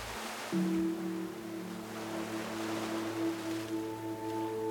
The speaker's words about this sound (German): Und es ist ja oft so, dass das Wasser auf den Sand trifft und dann immer weiter schwappt und irgendwann zieht sich das Wasser wieder zurück aufs Meer, bis die nächste Welle kommt.